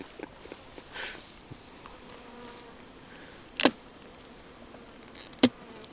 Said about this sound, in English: Now, on this particular frame that we're looking at, I'm seeing some clusters of bees. Are they feeding? Are they working? What are they doing they there? They are probably just finishing off caps.